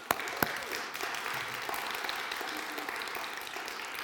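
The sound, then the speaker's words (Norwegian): Steady applause from a crowd for volunteers, including retired caretakers, who have been standing up front: a dense patter of many hands clapping at an even level for several seconds, with a couple of sharper claps standing out near the start. “skal bare gi en klapp til alle så her som har stått der litt nå.”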